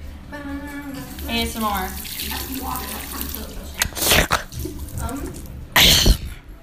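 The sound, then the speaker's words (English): Short, loud bursts of rushing water from a toilet flush, with a strong surge near the end, after people talk and vocalize over a low background hum. “Y'all want to hear some toilet flushing ASMR?”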